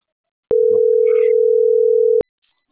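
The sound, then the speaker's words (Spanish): A single steady electronic phone tone, loud and clear, sounds for nearly two seconds and then cuts off, like a ringback on a call that nobody picks up. No voices are present. “Qué pinche parado, no me contesta”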